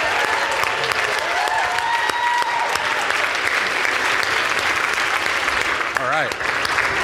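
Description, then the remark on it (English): Loud, sustained applause from a large audience fills the whole stretch, a dense wash of clapping with a few faint cheers mixed in and no break in the sound. “Please give her a bigger round of applause.”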